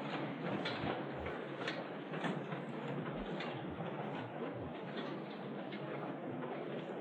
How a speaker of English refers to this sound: And now I'd like you to all stand and push your chairs in around your table so that you have a little bit of room. Stand behind your chairs.